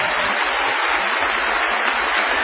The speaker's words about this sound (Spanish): Vamos a saludar a Patricio Barton con una ovación que se va a oír en azul